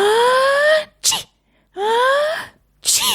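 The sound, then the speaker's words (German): Two loud sneezes in a row, each starting with a rising, drawn-out voiced inhale before a sharp, hissing burst, with a brief silence between them. “Schniefi zuckt schon wieder mit der Nase.”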